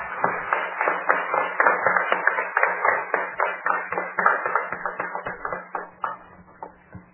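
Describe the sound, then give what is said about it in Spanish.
A group of students applauds steadily for about seven seconds at the third day of a Democracy Week event, a dense, crackling patter of many hands that tapers slightly toward the end, with a faint low hum underneath and no talking. “Voy a dejar que los alumnos ahora se aplaudan porque nombraron a las universidades y se quedaron con ganas de aplaudir.”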